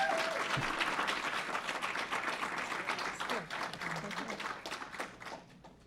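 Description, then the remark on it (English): A crowd applauds a woman restaurateur being honored at a Pride Month award event, many hands clapping in a dense, continuous patter that holds strong before slowly thinning toward the end, with faint voices mixed in underneath. “but let's give her a big round of applause because she's amazing.”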